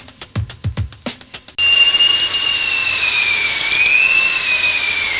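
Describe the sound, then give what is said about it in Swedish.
A few quick low thumps give way to a power drill's loud, steady high-pitched whir, its tone dipping and rising slightly as it runs for several seconds without any talking. “Ge mig borren.”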